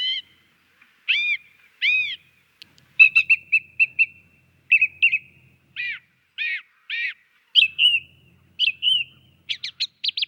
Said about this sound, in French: votre chant préféré, eh bien, c'est celui de la grive musicienne.